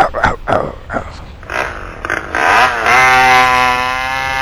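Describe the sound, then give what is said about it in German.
Several short, rough grunting bursts, then a chainsaw engine sputters, revs upward and settles into a loud, steady, buzzing whine that holds to the end. “Cookie, bring mir die Kettensäge.”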